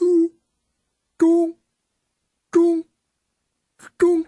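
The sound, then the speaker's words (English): A voice imitates submarine sonar: four short, tonal vocal pings, evenly spaced about a second apart, each a brief mid-pitched hum that stops abruptly, with silence between them and no other sounds. “Submarine sonar.”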